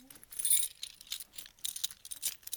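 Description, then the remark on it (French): A door being opened, with bright metallic jingling and rattling in a few short, uneven bursts, fairly quiet and with no one talking. “Vite, ouvrons la porte.”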